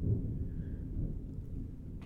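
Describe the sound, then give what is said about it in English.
Heavy rain pours down outside in a steady, dense roar with a deep rumbling low end, constant throughout with no voices. “The rain's really coming down outside, huh?”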